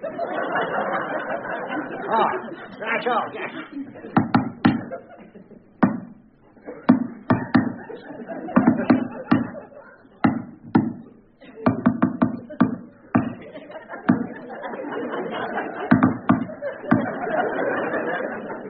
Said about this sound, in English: You'll have to knock in code.